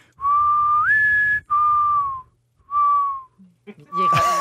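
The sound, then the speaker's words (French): A person whistles a mourning dove's call: a long note that slides upward, followed by three steadier, lower, slightly falling notes, ending in a brief noisy burst. “J'ai vérifié, c'est la tourterelle triste qui se lamente de même.”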